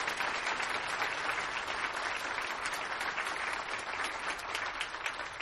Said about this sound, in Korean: 또 수고하신 많은 선생님들이 계십니다. 선생님들 우리 박수 한번 쳐주시기 바랍니다.